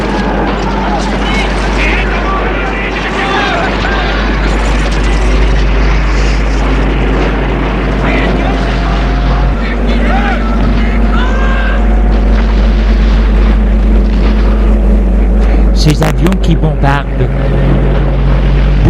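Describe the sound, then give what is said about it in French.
A propeller plane of an enemy army during a battle in Ukraine drones loudly and steadily overhead for the whole stretch, its deep engine hum unbroken, with muffled voices faintly beneath it and a brief clattering burst near the end. “Il y a l'armée ennemie avec ses avions.”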